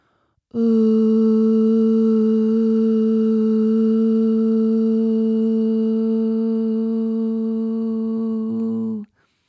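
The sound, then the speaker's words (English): A single sustained sung "ooh" tone, voiced as toning for the root energy center of the body, held steadily at one low pitch for about eight seconds, rich in harmonics, fairly loud, ending abruptly with no talking. “We're going to do three tones for each area.”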